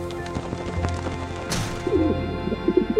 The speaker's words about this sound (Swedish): En duva landar utanför fönstret. Och det var inte en av de där vanliga grå duvorna. Den här var vit som snö.